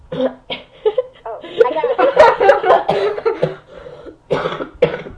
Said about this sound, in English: Oh, I got it. I coughed. Yes, you did.